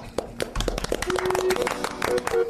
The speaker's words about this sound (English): Clap.